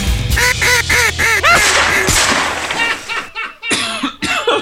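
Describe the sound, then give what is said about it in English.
Loud, busy chorus of ducks quacking, with many nasal calls overlapping in quick bursts, dropping briefly to near silence before a few more harsh quacks. “It's like pew pew pew pew pew pew, killing ducks.”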